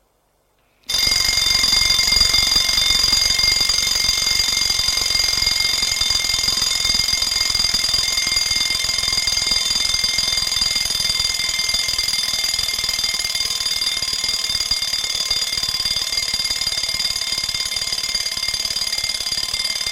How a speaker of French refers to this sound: Il a bien mis son réveil en marche, mais on ne sait jamais. Il a attendu que le réveil sonne pour se lever.